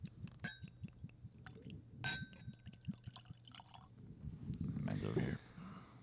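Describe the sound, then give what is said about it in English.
Journeyman's Kissing Cousin whiskey, 90 proof, glugs and splashes as it's poured into a glass, with a couple of bright glassy clinks early on, a low voice murmuring underneath, and a fuller gurgling surge near the end. “We had a listener tell us once that they hate the sound of the pour.”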